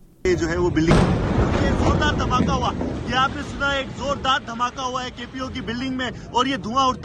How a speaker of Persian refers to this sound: گزارش دهی زنده تلویزیون دان از لحظه یک انفجار در قرارگاه مرکزی پلیس در شهر کراچی، بزرگترین مرکز تجارتی پاکستان. مهاجمان انتحاری ناوقت جمعه بر این قرارگاه هجوم بردند.